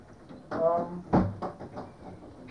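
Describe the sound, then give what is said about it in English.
A door shuts with a single dull thud partway through, with faint voices murmuring before and after. “I'll just close that door because.”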